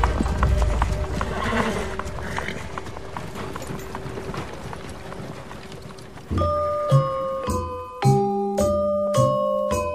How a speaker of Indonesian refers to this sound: Tak lama kemudian, datanglah para penjemput dengan seekor kuda. Gemuruh bunyi jejak kaki kuda. Dari kejauhan sudah terdengar ringkikan kuda.